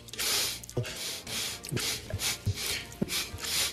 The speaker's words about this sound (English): his sniffing in the debate. He did a lot of sniffing.